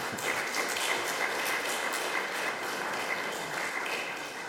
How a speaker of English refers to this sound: And the next round of applause I receive like that is when I'm leaving.